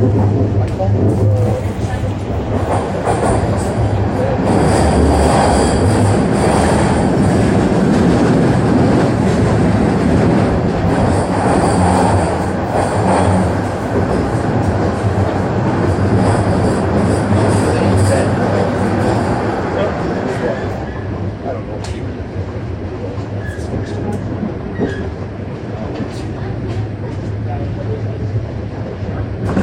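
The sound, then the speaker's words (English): A subway train runs between stations toward Rosedale Station with a loud, steady roar of rumbling wheels and clattering track noise. It is low and grinding throughout and eases slightly toward the end. “Arriving at Rosedale Station. Doors will open on the right.”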